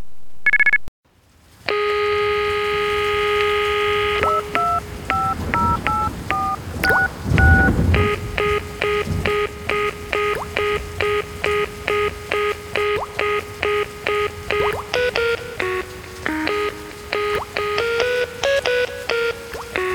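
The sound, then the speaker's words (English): Loud telephone tones for hearing- and speech-impaired callers on a company phone line: a long steady tone, then rapid sequences of short beeping dial tones at shifting pitches, played loud with no voices. “The following tones are for our customers who are hearing and speech impaired.”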